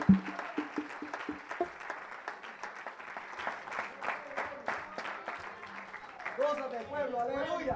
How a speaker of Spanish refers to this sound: Dámele un aplauso al Rey de Reyes y Señor de Señor.